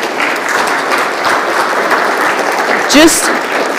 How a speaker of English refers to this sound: Just let the applause be our sign of encouragement for you that we're with you and holding you up.